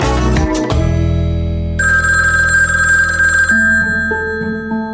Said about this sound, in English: And so a week before Thanksgiving in 2008, the phone rings in the kitchen, and it was the husband